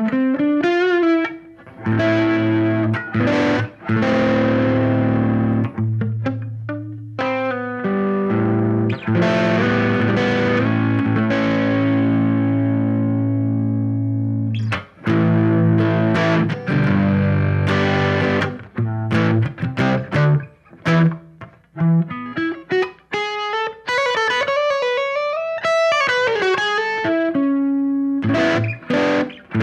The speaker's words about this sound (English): P48 is Squeeze Blues GT, a bluesy sound with ambience included. It doesn't say what GT is, though.